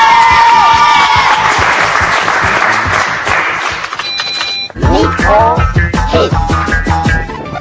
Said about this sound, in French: Bravo à nos 4 candidats. On peut encore une fois les applaudir.